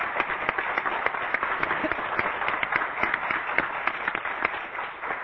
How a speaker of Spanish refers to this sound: Qué interesante la reacción de la gente. ¿Por qué aplaudieron? No, porque es un orgullo.